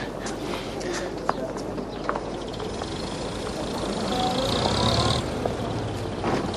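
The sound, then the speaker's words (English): Steady outdoor ambience of a London street with people, cars and children, a broad wash of traffic noise that swells as a vehicle passes, scattered footsteps and indistinct background voices mixed in. “With people, cars, children.”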